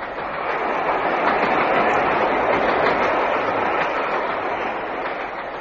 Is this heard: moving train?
yes